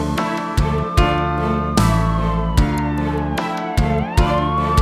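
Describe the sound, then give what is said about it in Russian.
A police siren wails with rising and falling pitch over steady music, while regular percussive beats knock roughly every second beneath it. “Кричала шухер я, как слышала сирену, и Бобик мне дорогу преградил.”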